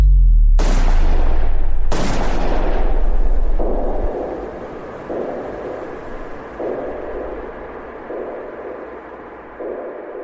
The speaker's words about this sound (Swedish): Klockan är 23.21. När gärningsmannen kommer fram bakom makarna Palme och skjuter två skott på nära håll. Det första träffar Olof Palme i ryggen. Det andra snuddar vid Lisbeth Palmes rygg.